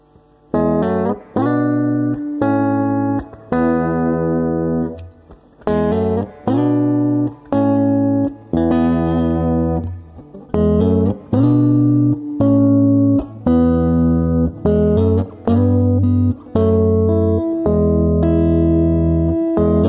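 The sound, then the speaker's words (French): A sustained, harmonically rich instrument plays a series of chords with a steady, fairly loud rhythm, with a little reverb added on the mixing console, each note ringing into a reverberant tail that blurs the gaps between them. “Avec un petit peu de reverb ajouté sur la console, ça nous dit ça.”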